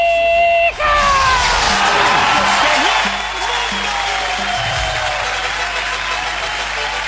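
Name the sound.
audience applause and cheering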